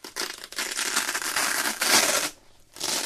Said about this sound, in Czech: Třeba rád nosím tenisky, které se zapínají na suchý zip. Ne, že by mi vadilo zavazovat si tkaničky, ale suchý zip při používání vydává jeden z nejpůvabnějších zvuků na světě.